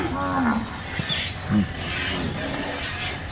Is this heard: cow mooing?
yes